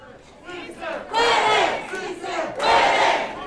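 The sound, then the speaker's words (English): A crowd roars and cheers at a Culinary Workers Union rally in Las Vegas, Nevada, early on Election Day morning, in two big swelling waves, the dense mass of shouting voices building loudly, dipping briefly, then surging again with no single speaker standing out. “Our contributor, Stefania Talladrid, covered the race from Las Vegas, and early on the morning of Election Day, she was at a rally held by the Culinary Workers Union.”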